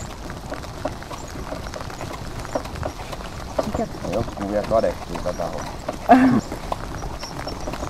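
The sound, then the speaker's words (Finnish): A steady rhythm of hooves clopping on wet ground from Ikika Capri, a trotting horse in training pulling a two-seat tandem cart in the dawn rain, with light rain patter underneath while a man talks over it. “Mikä ton hevosen nimi on?”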